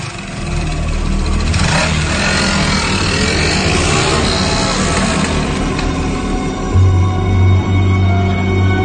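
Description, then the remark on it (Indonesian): A motorcycle engine runs loud throughout, revving and rising in pitch as it pulls away at night to deliver an order to an apartment, then settling into a steady low drone near the end. No voices. “Akhirnya aku berangkat menggunakan sepeda motor untuk mengirimkan orderan ke apartemen itu.”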